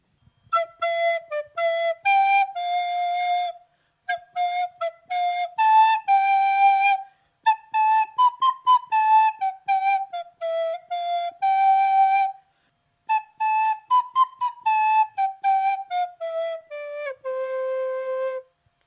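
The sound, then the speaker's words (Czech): A bright shepherd's pipe (whistle) plays a lilting folk melody for sheep grazing on a hillside, in short, clear phrases with brief pauses, notes stepping up and down before settling low at the end. No voices. “Naučil se hrát na píšťalku a když hlídal ovečky ve stráni, vyhrával jim, aby se jim lépe páslo.”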